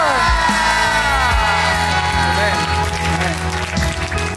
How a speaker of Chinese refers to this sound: 阿们，拍掌把荣耀归给他，向他欢呼，哈利路亚。